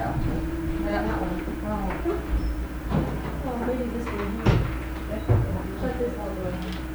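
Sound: door being closed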